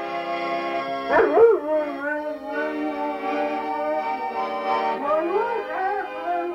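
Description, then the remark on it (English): A dog howls and whimpers in wavering, rising and falling cries over steady, sustained accordion chords being played, trying to match the accordion's tone, with one burst near the start and another toward the end. “And the dog is Nippy.”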